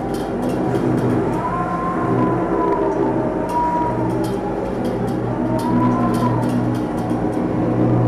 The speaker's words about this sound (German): Es sind nicht die Sirenengesänge der Meerjungfrauen oder die Rufe der Wale, sondern es sind die Feuer- oder Luftschutzsirenen von Beirut, die an den Strand der libanesischen Hauptstadt dringen.